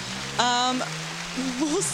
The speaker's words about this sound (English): There's some applause.